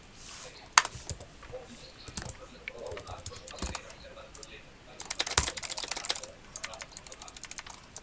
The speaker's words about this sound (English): Now let's see if yours says I'm typing now.